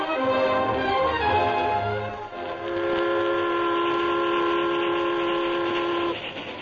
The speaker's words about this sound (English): The train from St. Louis to the far west sped over the Texas prairie.